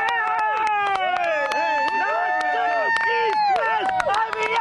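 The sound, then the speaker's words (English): A robot vehicle team from Littleton, Colorado cheers and whoops with overlapping high, sliding shouts, punctuated by sharp claps, loud and continuous throughout the short burst, as their vehicle, Desert Tortoise, moves around another vehicle that was stopped. “they're cheering because their vehicle, Desert Tortoise, successfully moved around another that was stopped.”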